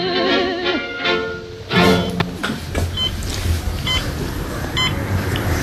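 Three short, high electronic beeps from a head-controlled media device called the James, used for music, TV, video and hi-fi, repeat about once a second over a rumbling, noisy background, preceded by a wavering tonal electronic chirp.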